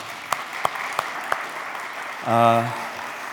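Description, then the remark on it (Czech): Scattered applause: four sharp, evenly spaced claps ring out over a steady hiss of crowd noise, followed by a short, loud, buzzy voiced sound near the end. “Tak jo, děkujeme za tleskej mi”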